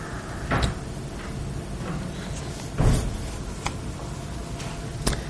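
A back door is pulled shut with a solid low thud midway, framed by a couple of lighter clicks and knocks, with steady background hum and no talking.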